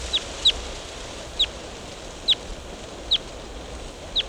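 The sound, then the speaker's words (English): A wild bird repeats short, high, sharp chirps about once a second, six calls standing out clearly over a steady outdoor background hiss, with no one talking. “Wild bird.”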